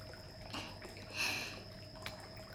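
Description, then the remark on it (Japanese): Soft, steady shower water hisses throughout as it wets someone's hair at a hot spring bath, swelling briefly in the middle before settling back to a low, even spray, with no voices. “それじゃあシャワーで頭濡らすね。”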